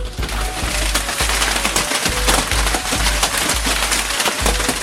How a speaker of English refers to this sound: We got a pretty good hailstorm, at least where I am in the Denver metro area. You know, it sounded like this.